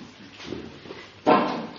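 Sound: door being slammed shut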